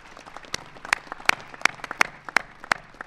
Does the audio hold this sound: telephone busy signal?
no